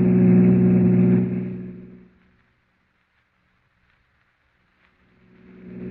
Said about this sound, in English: Oh, officer, can't you go faster? I'm driving as fast as I can,